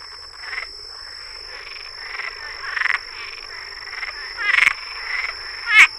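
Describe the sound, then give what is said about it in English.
A Cuban tree frog, a very large tree frog, in Florida gives raspy, chuckling calls in an irregular series of short bursts, with a few sharper, louder notes near the end, heard alone over a steady high insect-like hum. “Its call is somewhat like the chuckling sound of the”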